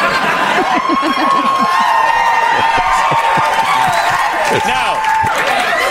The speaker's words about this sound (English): It's a round of applause. People go nuts in the audience for no underwear.